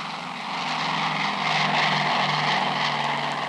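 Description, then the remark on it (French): A four-engine Super Constellation propeller airliner roars loudly and steadily as it speeds down the runway at Orly and takes off on 20 August 1958, a dense, strident engine drone that swells slightly and holds, with no voices. “Sur la piste, un super constellation roule de plus en plus vite et décolle dans le vrombissement strident de ses quatre moteurs.”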